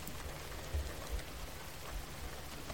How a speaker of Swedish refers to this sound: Vänder ansiktet upp mot himlen och låter de mjuka regndropparna möta ansiktets hud. Känner du varje droppe som möter huden känns olika?